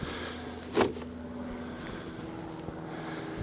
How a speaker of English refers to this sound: Tons of bees here at the top. Fry the inner cover off. Maybe I'm gonna smoke them real quick so nobody gets excited. A little smoke in the top, a little smoke in the entrance. You hear the buzz.